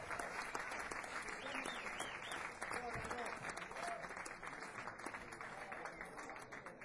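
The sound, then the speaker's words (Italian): Steady audience applause at a music convention as one of the organizers is invited onto the stage, a dense crackle of many hands clapping that holds at an even level throughout, with faint voices and a few calls mixed in underneath. “Un applauso.”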